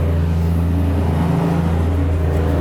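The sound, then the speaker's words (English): A truck engine being overhauled across the street rumbles and revs steadily, a deep, continuous motor drone with a slight swell midway, moderately loud and unbroken for the whole stretch. “There's a truck across the street doing a little bit of overhaul.”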